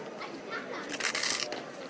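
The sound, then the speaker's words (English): Soft, crackly crunching of crisps being eaten quietly, with a brief cluster of muffled crunches in the middle over a low background murmur. “hear people eating crisps gently, as if they do not want to be heard.”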